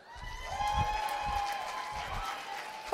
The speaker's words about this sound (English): Oh, no, serious, I can't believe you're clapping. That is so awesome. So, oh, no, stop. Don't really stop when I go stop.